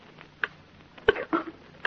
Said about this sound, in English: Oh, that clock. clock again.